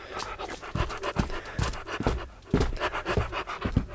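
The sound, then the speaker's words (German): A dog pants rapidly and steadily, quick rhythmic breaths with occasional soft scuffling, no voices present. “Kann ich den schönen Hund mitnehmen?”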